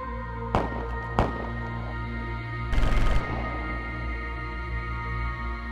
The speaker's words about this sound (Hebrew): רגע אחר כך נשמעות יריות מתוך הבניין.